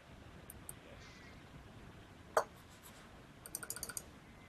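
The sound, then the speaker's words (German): Sharp clicking of a battery-powered computer mouse that still does not respond after its batteries were changed: a lone loud click, then a rapid, insistent burst of several clicks near the end, against a quiet background hiss. “Sie hören ein energisches Klicken, aber es tut sich immer noch nichts.”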